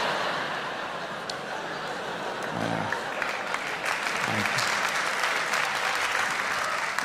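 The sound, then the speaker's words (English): An audience claps steadily for several seconds, a dense wash of handclaps with a few scattered laughs and murmurs mixed in, swelling slightly toward the end. “Thank you for the jaded applause.”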